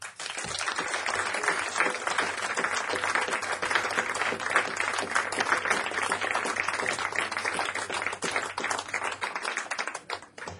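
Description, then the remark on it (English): Sustained applause from an audience at a live music show as a band musician is introduced, a dense wash of many hands clapping steadily for about ten seconds before tapering off at the end, with no voices standing out. “let's have a nice round of applause for …”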